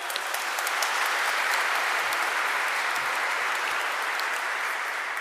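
Steady audience applause fills the whole stretch, a dense crackle of many hands clapping at an even loudness without pause, with no voices standing out above it.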